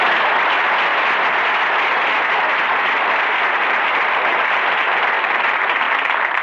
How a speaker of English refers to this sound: And, folks, I want to thank you for giving Don that big hand, because never has so little made so much so happy so fast.